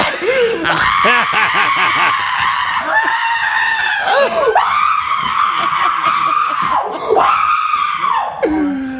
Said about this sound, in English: I think I'd feel the same way if I was, to be honest with you. I think I'd feel the same way, but I'm not going to be screaming like that.